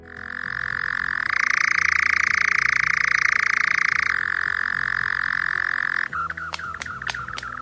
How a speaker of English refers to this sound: Their soft plumage means they can fly silently, and their camouflage makes them almost indistinguishable from a chunk of tree bark. Their presence is usually only noticed by their chirring song, best heard in the evening.